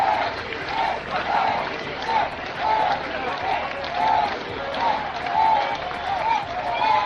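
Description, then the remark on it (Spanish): A large crowd in Plaza Cataluña, Barcelona, chants in unison, repeating a rhythmic shouted cry of "viva el rey" (long live the king) roughly once a second, loud and continuous, with scattered applause and cheering mixed into the roar, at the central act of the first anniversary of the attacks, with King Felipe VI present. “Gritos de viva el rey hoy en Barcelona”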